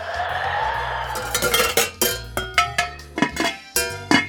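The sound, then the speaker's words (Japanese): Rice paddles and plates topple one after another like dominoes, a rapid chain of bright clatters and clinks that speeds up, with a steady low hum underneath. “おお、これは芸術的なドミノ倒しだな。”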